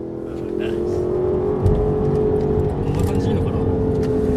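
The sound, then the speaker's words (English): A car engine revs and accelerates, heard by a passenger riding in the car, its steady mechanical roar holding loud throughout with a rising whine layered on top. “That was one of the most fun I've had as a passenger in a car, maybe ever.”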